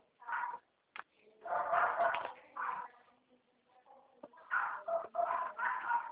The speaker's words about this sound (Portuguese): Cachorra tá braba aí, hein?